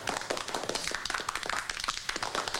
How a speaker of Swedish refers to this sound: Jag slutar applådera.